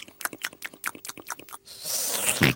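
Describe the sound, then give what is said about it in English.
A voice talks first, then a thick, wet pouring and squishing sound rises fairly loud for about a second as Mummy Pig pours a little syrup on George's pancake, like sticky syrup spreading over a pancake. “Mummy Pig pours a little syrup on George's pancake.”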